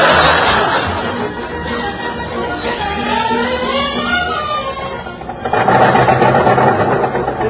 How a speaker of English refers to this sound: I gotta do something about that ping in the engine.